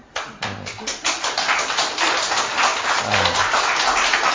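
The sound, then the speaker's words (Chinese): At a church gathering, a few scattered claps quickly swell into steady, dense audience applause for a young piano player, continuing at an even level to the end, with faint voices murmuring underneath. “然后呢算这么多人里面他算是很新的，才来我们教会几个月所以在进步当中，我们给他一个掌声。”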